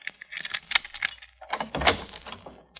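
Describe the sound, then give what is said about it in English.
Quick clicks and metallic rattling as a front door lock is worked at 4 o'clock in the morning for a Cairo police lieutenant, followed by a heavier clunk as the door is pulled open; fairly quiet, with no voices. “In the name of authority, you will open the door.”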